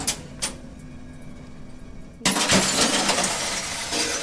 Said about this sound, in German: Genau. Und unter dem Druck platzt die Flasche halt.